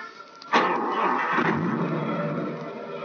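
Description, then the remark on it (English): A car engine cranks and catches at about half a second, then settles into a steady, fairly loud idle with a slight rev, no voices. “Start the engine.”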